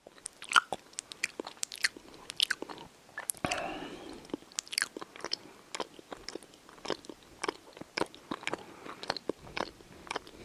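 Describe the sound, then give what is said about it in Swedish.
Loud chewing with wet smacking and crunching as someone eats noisily with food in the mouth, a steady run of sharp mouth clicks and squelches over about ten seconds, with no talking. “Smaska. Alltså smaska, prata i mun med så här, när man har mat i munnen och så här, tuggar högt.”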